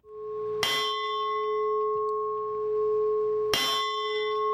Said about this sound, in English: This bell tolled in protest before an execution in August.